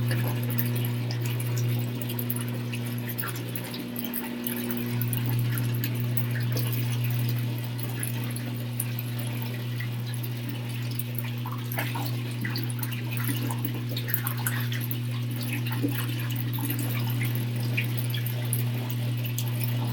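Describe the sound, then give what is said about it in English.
Water runs and drains steadily from a jacuzzi with a low mechanical pump hum beneath it, punctuated by small trickles and drips, continuous for the whole stretch with no voices. “Like, the jacuzzi is just, like, lose water.”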